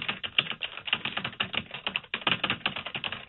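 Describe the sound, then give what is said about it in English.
Rapid, steady clatter of keys on a computer keyboard, with quick irregular taps running continuously and a brief pause midway. “What are you typing?”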